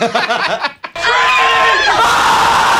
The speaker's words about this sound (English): they're going to get all these people together, and they're going to scream for 15 seconds to protest violence